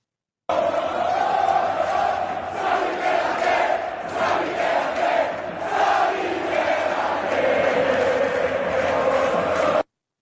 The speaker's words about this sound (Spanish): Ahí está el grito que tuvo el aficionado del Bernabéu. Xavi, quédate, Xavi, quédate, Xavi, quédate.